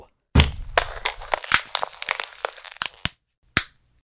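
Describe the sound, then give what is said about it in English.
A Kindle e-reader is wedged under a coffee table leg to prop it up: a heavy thunk, then a loud run of cracking, crunching snaps, and one final sharp crack after a brief pause. “Dog-ear the pages, flip back and forth, and even use it to prop up the leg of a coffee table, like so.”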